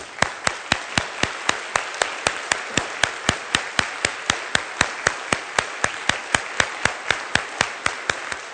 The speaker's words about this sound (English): And I think it is appropriate that we applaud.